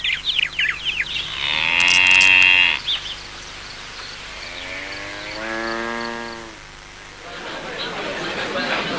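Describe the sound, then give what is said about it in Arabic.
A cow lets out two long, drawn-out moos separated by a short pause, fairly loud, over a steady background hiss with no one talking. “حسنا أيها الفتى، قبلنا عرضك مضطرين، فهيا بنا نذهب بالبقرة إلى الميزان لنعطيك ثمنها وتسلمنا إياها، فلم يعد لدينا وقت نضيعه.”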